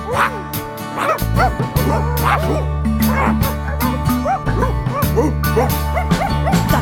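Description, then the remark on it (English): A voice imitates a dog, letting out a rapid, steady run of yappy barks over a sustained musical backing, loud for the whole stretch. “How do you bark like a dog? There's different ways to do it.”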